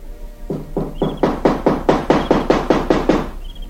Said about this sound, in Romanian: Stam la îndoială dacă să nu iau la fugă, dar până la urmă mi-am adunat tot curajul și am început să bat de zor cu pumnii și cu picioarele în ușe.